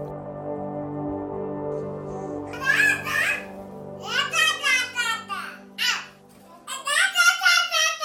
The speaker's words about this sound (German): Das hier sind zwei Babys, die so etwas wie eine Konversation führen. Zugegeben, da kann man noch nicht viel verstehen, aber schon bald werden aus dem unverständlichen Gebrabbel richtige Wörter und schließlich Sätze mit einer richtigen Grammatik.